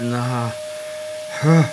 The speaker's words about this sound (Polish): Niech pani wyłączy ten odkurzacz, to pani opowiem.